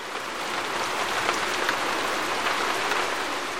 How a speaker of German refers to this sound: Es regnet seit Tagen. Doch nun, ab dem 24. November 1890, schüttet es wie aus Kübeln, was keine Metaphorik ist. In 3 Tagen stürzt ein Fünftel der Regenmenge eines Jahres aus dem wolkendüsteren Thüringer Himmel.